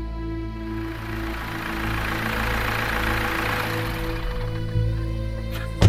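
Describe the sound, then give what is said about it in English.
A car engine idles steadily in a driveway, a low, even rumble with a constant hum that holds for several seconds before a brief bump and a sharp click right at the end. “I parked the car in the driveway and headed up the walk to the house.”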